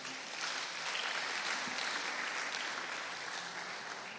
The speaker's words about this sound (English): Can you clap your hands for Jesus, somebody?